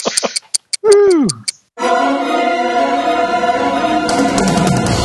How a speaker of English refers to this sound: Do I hear ticking? You do indeed hear ticking, and it's a return of the now working properly Doom clock.